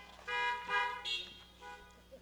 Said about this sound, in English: Honk if you can hear me, if you're in your cars.